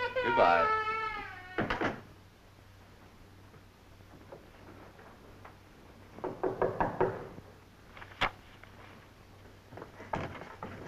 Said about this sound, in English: Mary said it would be all right if I knocked.